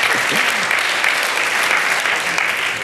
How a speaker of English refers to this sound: A round of applause for Scruffy, everyone. He's pretty awesome. Or they are pretty awesome.